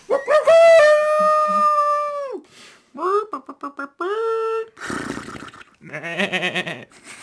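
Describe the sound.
A person imitates a howling dog: one long, steady, drawn-out howl, then a series of short yelping bursts, another brief howl, and rougher, growly noises to finish.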